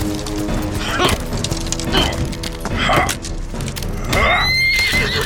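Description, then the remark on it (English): Horses in woods whinny and neigh in loud, shrill bursts over a busy rush of hooves clopping, with one long, high whinny near the end standing out clearly above the commotion. “The horses! The woods are trying to take them!”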